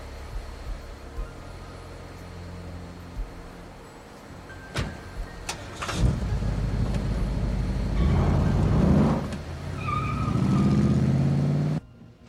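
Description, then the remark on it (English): A car door thunks shut, then an engine starts and revs as the car pulls away to be driven back to the manager's office for a rewash, its motor rising and steadying while it drives off, with no voices. “Just come back to the manager's office and I'll bring the car back there for you.”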